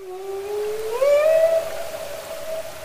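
A humpback whale in Glacier Bay National Park, Alaska, lets out one long, rising moan that slides upward and then holds a steady, rich tone, heard over a constant wash of underwater hiss.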